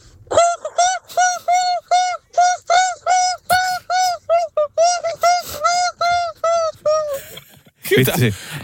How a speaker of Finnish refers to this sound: Monta ääntä tässä. Näitä oli siis ihan valtava joutsen parivi. Joo, oli kyllä uskomattomia ala- ja yläääniä sieltä.